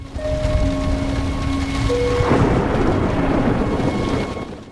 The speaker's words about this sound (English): Later, a storm brews in the night sky. Lightning illuminates the quilted bed covers over Audrey, who's asleep in her room.